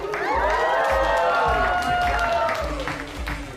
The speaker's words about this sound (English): Clapping, Wendy beams.